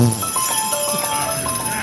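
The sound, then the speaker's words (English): A horse shuffles and clops about in the woods, with a snort and light jingling of its bells, over steady background noise and indistinct voices. “He's the most incredible horse, seriously.”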